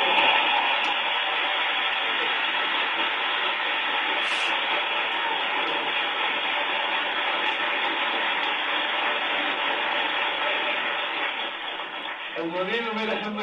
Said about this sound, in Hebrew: אדוננו מלך המשיח, אתה שומע את הכפיים שלך?